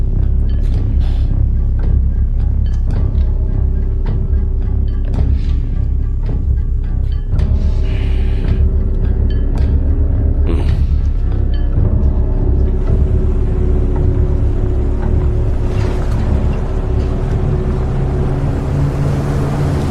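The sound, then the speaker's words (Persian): A car engine runs steadily, a loud, continuous low rumble with a droning hum that holds for the whole stretch, broken only by a few faint knocks and rattles. “ماشینتو خاموش کن، کلیده رو بذار زمین، در رو باز کن.”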